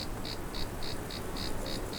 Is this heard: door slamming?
no